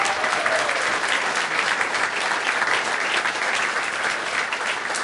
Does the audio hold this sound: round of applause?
yes